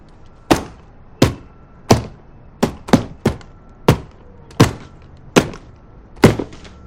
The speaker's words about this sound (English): She tries to scoop up the bright yellow, despairs, and slaps her hands on the canvas.